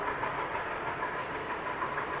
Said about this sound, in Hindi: और उस समय हंसी मिटाने के लिए कोई ऐसे भीषण राक्षसों की आवाज बार बार नहीं आती थी, जैसे ये रेलगाड़ी है, ये असुर ही है, समझ लीजिए ये आधुनिक असुर है।